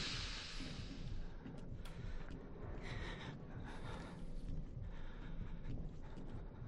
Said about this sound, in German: Ich höre Schritte, aber ich kann nicht definieren, ob die von links oder rechts kommen. Ah, das sind meine eigenen, nicht voll Idiot.